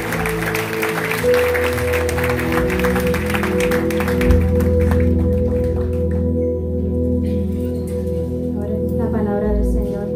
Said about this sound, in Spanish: Así que dar un fuerte aplauso a ese que recibe toda la gloria y toda la honra.